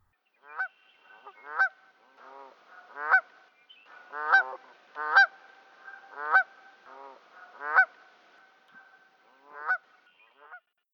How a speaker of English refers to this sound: Far away to the west, the geese had all landed and were calling to each other, their necks already bent to pick the new leaves from the willows.